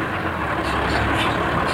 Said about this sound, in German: Dann erreichten die Bande, Mr. Peacock und die drei Fragezeichen das einsam gelegene Haus nahe Beverly Hills. Kein Mensch war zu sehen, als der blaue Lieferwagen in die von einer Hecke überwucherte Einfahrt fuhr.